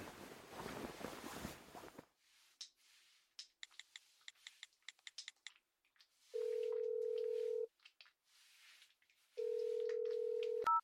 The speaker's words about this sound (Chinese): 主人让我干什么都行，我现在就打电话把他叫过来。